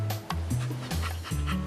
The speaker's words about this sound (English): Woof!